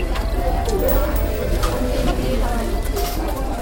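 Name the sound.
birds chirping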